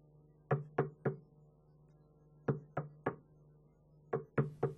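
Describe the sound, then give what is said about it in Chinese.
Three quick raps on a hotel room door, repeated three times with pauses in between, fairly loud over a steady low hum, as someone asks the occupant to open up, in the morning. “开门，你在不在房间里啊？”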